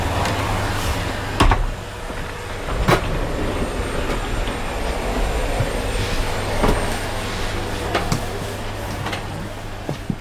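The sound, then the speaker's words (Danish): A steady, droning whir much like a vacuum cleaner runs throughout, with a low hum underneath and a few sharp clicks or clanks cutting in at intervals; no one speaks. “Og det lyder som støvsuger.”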